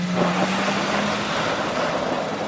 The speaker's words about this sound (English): As the rain began to pour, I jumped in my car and sped across town.